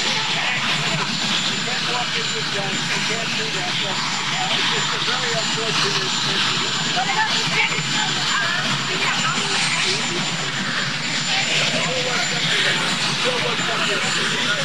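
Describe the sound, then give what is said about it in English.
A steady, loud drone of helicopter rotor and engine noise fills the background throughout, with indistinct voices murmuring underneath the constant roar. “I'm going to try to crank up the volume, but it's hard to hear due to the chopper in the background.”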